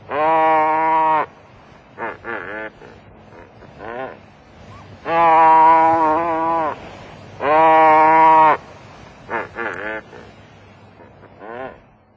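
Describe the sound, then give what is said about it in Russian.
Short-tailed albatross, an ocean bird with a wingspan of over 2 metres that now nests only on Japan's volcanic island of Torishima, calling: three long, loud, harmonic bleating cries alternate with several shorter, fainter bursts in an uneven rhythm, with no talking. “Ныне он гнездится только на вулканическом островке Торисима, принадлежащем Японии. Вот его голос.”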